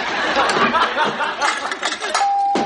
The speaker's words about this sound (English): The bell. There you go.